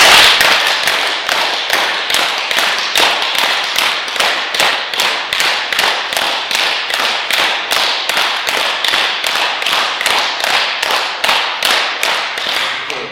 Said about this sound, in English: Those who have high blood pressure, it's very good to clap their hands. And we are clapping hands, not just clapping like this, but putting our hands up our head and then clap as hard as you can for 30 times.